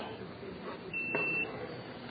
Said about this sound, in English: So, makes that beep, which means I'll have to do this real quick.